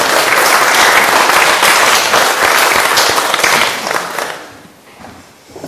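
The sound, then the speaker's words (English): An audience applauds with a dense, steady roar of many hands clapping, holding loud for about four seconds before tapering off to a few scattered claps. “Please let's give them a round of applause.”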